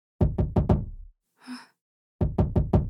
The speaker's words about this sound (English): Don't answer it. Nobody good could be knocking at your door at 1:40 a.m. Just call the police. You're gonna be okay. Just call the police and tell them some sketchy stranger is pounding at your door at 1:40 a.m.